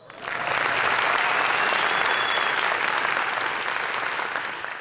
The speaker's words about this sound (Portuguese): Palmas.